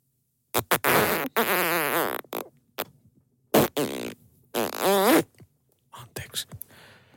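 A run of loud, buzzy fart noises in several bursts of varying length, their pitch wobbling and sputtering, separated by short silent gaps, with a few quicker, fainter puffs at the end.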